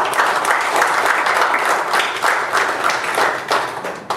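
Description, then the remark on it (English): A crowd applauds steadily for about four seconds, a dense, loud wash of many hands clapping with no voices standing out, tapering slightly at the end. A church audience is applauding Jesus during a service. “Give Jesus a hand of applause in the house.”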